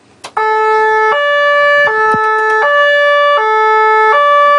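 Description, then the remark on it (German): A loud two-tone siren of a lake police boat in the harbour of Zug, alternating steadily between a high and low pitch, starting abruptly after a brief click and sounding alone without any talking. “Wie tönt eigentlich die Sirene von so einem Polizeiboot”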